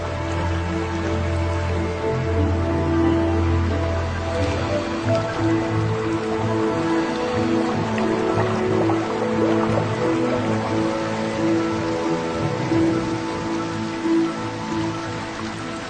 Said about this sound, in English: During the lowest tides, the water runs off and whole sections of living coral that would normally be underwater are exposed.